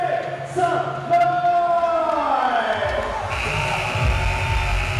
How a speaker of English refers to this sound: Sometimes the arena sells out, but on this snowy February night, the building is less than half full, a crowd of 1,694.